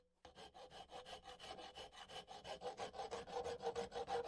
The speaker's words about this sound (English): He was captured and extradited back to Oklahoma, where he tried to escape the county jail that he was being held in during his trial by sawing through some of the bars on the window of his cell.